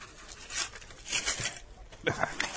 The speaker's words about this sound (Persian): اینم 10 سنت میخ. ممکنه بپچینش توی کاغذ؟